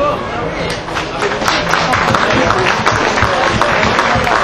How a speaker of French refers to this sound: Donc c'est peut-être l'occasion pour ces 300 bénévoles qui seront bien fatigués ce soir, déjà de les applaudir. Merci pour eux.